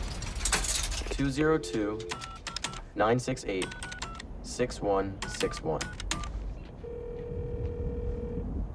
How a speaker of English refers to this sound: pops some change into the payphone and calls the number on the slip of paper.